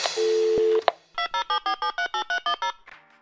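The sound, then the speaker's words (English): A telephone rings on a call to the Wow in the World line: a brief steady electronic tone, then a rapid, even run of about ten bright, warbling ring pulses, fairly loud, with no voices. “Thanks for calling Wow in the World.”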